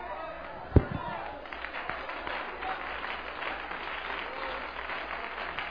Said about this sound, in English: Oh, hallelujah. Let's clap our hands to the Lord again. Glory to God. Hallelujah.